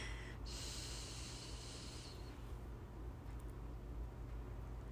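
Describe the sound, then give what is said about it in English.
A single deep inhale, drawn down to the abdomen, a sharp breathy rush drawn in through the nose for about two seconds, then fading into a low steady rumble of background noise. “Inhale down to the abdomen in a comfortable amount capacity for you.”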